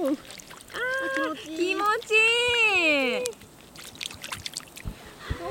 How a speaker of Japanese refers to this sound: 私先ほどから川の水が触りたく 冷たいですかね。 どうだろう。あ、冷たい冷たい。 この音。